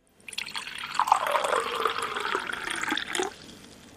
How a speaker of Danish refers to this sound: Så vandlyd svarer til, at hjernen ikke aktiverer alarmberedskabet. Skal vi lige prøve at høre et eksempel på det?